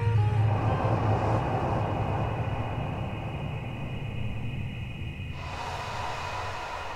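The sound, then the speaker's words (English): A steady rumble of car traffic and aircraft fills the air, a low continuous drone with a faint high whine running through it, its upper hiss shifting slightly near the end. “Its light is soft among the sound of cars and planes and media.”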